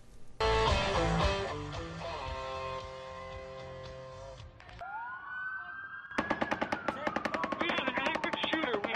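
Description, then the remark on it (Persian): Loud music plays, followed by a brief rising siren wail, then a long, rapid burst of automatic gunfire crackles steadily to the end, echoing. It is the shooting at a music festival in Las Vegas, Nevada, USA, in which at least 59 people were killed and more than 527 wounded. “گلوله‌باری زمان اتفاق افتاد که مردم در یک جشنواره موسیقی در شهر لاس وگاس ایالت نوادا شرکت کرده بودند.”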